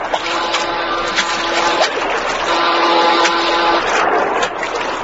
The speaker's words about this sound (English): Why, it's a boat. Ahoy! You in the boat there! We've come to rescue you, and we're bound for Singapore!